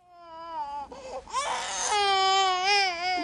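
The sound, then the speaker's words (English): An injured infant with a skull fracture, in a hospital emergency room scene, cries loudly, a continuous high wail with strained rises and breaks over a few seconds, no speech in between. “He's still crying.”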